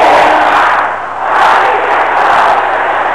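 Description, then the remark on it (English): An audience shouting prayer together, a loud, dense wall of many overlapping voices that surges steadily, dips briefly, then swells back up and holds at full volume. “Can you shout this loud and clear?”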